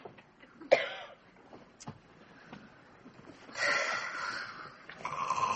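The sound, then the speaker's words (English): A man snoring in bed, with a sharp snort near the start, then two long, rough, rasping breaths building in loudness. No one speaks. “He's snoring again.”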